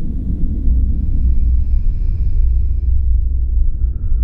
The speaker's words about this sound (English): at max volume, I can just barely hear something that sounds like some kind of ominous creature breathing.